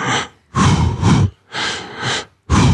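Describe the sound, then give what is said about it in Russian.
A voice imitates rhythmic running breaths, loud: four strong breathy bursts in a steady in-out pattern, inhaling over two steps and exhaling over two steps, each roughly half a second long, separated by short pauses. “Я так себе, спокойно дышу. 2 раза, 2 шага вдох, 2 шага выдох.”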